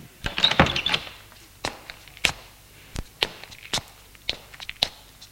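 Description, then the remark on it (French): A dining room door opens with a short rattling clatter of the latch, followed by a series of sharp, irregular knocks and taps like footsteps crossing the room. No voices. “Porte de la salle à manger s'ouvre.”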